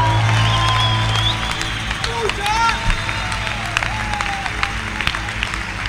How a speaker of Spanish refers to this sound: Aunque vengas frío, dale un aplauso a Dios.